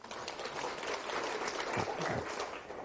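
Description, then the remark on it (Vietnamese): An audience claps steadily for a few seconds in encouragement of one participant, a dense, even patter of many hands at moderate loudness with no voices standing out. “Tặng cho bạn này một tràng pháo tay khích lệ.”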